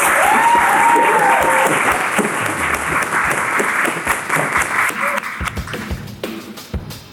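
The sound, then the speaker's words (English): Loud, dense audience applause for a guest, holding steady for about five seconds, then thinning out and trailing off, with a short whoop or whistle rising above it early on. “Can we give a huge clap to Andrew, please?”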